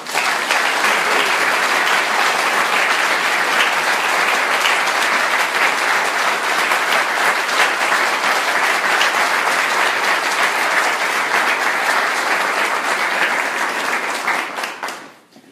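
Sustained applause from a sizable audience for a high school student being recognized, steady and loud for about fourteen seconds of dense clapping before quickly tapering off at the end. No talking over it.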